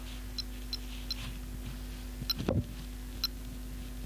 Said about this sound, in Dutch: Wel een zacht piepje, maar... Ja, oude klokjes werden tevoorschijn gehaald en de piepjesmania was een feit.